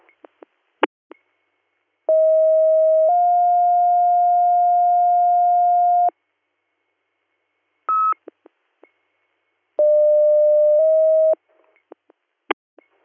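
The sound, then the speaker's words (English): Emergency dispatch paging tones for Western EMS, dispatched to Standing Stone Township for a 64-year-old male with possible CVA: a long, loud two-part steady tone stepping to a second pitch, a brief higher beep, then another shorter two-tone pair, separated by quiet radio clicks and pops. No voices. “Western EMS, disregard your tones.”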